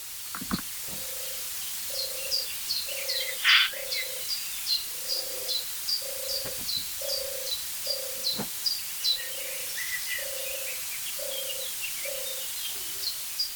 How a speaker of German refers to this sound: Es sind definitiv zwei Tauben. Es erinnert mich auch so ein bisschen an diese Morning Dove ist es, oder irgendwie ist es, ne, Morning Dove ist es nicht, aber es ist so ein typisches, so ein kleines südafrikanisches Täubchen.